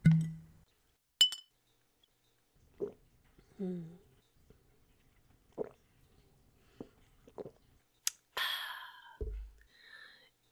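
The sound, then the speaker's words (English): Glasses of drinks clink together in a toast, two bright, ringing taps several seconds apart, with soft wet sips, drips and small handling noises filling the quiet between them. “Avar, it means cheers, more or less.”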